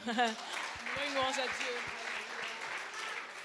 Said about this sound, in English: So God, come over here, God. Let's give God a clap.